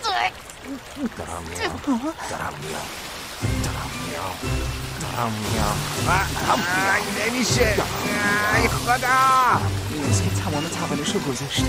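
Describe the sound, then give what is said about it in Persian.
Water from a waterfall pours down heavily and continuously, a steady rushing roar that fills the whole clip while voices talk and exclaim loudly over it during waterfall training. “تمرین آبشار خیلی سنگینه.”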